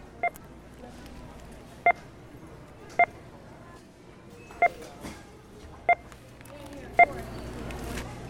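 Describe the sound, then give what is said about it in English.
Six short electronic beeps from a checkout scanner at a checkout line in the Bay Area sound at irregular intervals, each a clear tonal blip over a murmuring background of store ambience and faint voices. “We use those beeps to create this piece we're about to listen to.”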